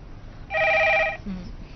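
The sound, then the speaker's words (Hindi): A telephone rings once, a loud electronic trill lasting under a second over a low background hum, followed by a brief faint voice-like murmur. “उठो और जाकर रिसीव करो।”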